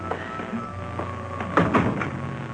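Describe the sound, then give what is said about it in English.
A door is opened, with a soft latch click and a couple of muffled wooden clunks partway through, over a quiet room hum and no talking. “Let me get the door.”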